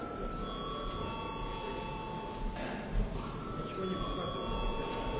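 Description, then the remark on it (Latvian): A parliament chamber bell rung before a vote on a draft law in its second reading rings steadily without a break for several seconds, a sustained metallic tone with bright overtones, over a low background hum and faint murmur of voices. “Lūdzu zvanu.”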